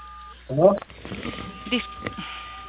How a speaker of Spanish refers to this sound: Disculpe, caballero. Se están presionando las teclas de su teléfono. No le escucho.